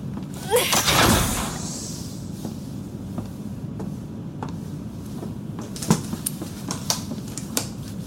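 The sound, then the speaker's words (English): A mechanical medical bay door, opened with the manual door controls, slides open with a loud rushing whoosh, followed by a low steady hum and scattered sharp clicks and taps. “Can you open the door? No. Please use the manual door controls.”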